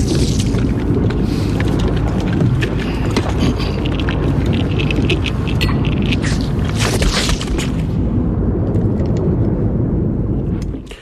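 Rifle gunshots crack repeatedly over a heavy, continuous low rumble, like a loud battle scene with sharp reports scattered throughout before the din cuts off abruptly.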